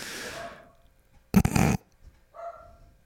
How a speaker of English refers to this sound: I'd also recommend not getting a dog, because mine barks all the time. Shut up!